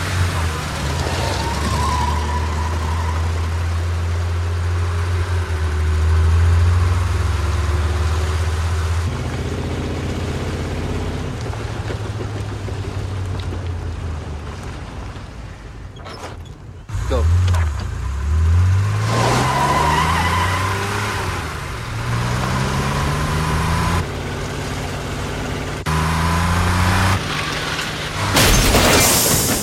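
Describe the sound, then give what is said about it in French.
Loud car engines rev and roar, then a sudden crash breaks through about halfway, followed by engines revving again with rising, sweeping pitch, in a staged reenactment of James Dean's fatal car crash in a David Cronenberg film. Faint voices may sit beneath the engine noise. “Pour eux, l'extase érotique s'obtient dans des accidents de voiture, comme dans cette scène où on rejoue l'accident fatal qui a fait de James Dean une légende d'Hollywood.”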